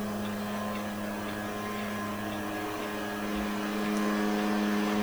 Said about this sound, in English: Hey, the leaf blower's back! Because we didn't blow enough dirt off the fucking rocks the first time around.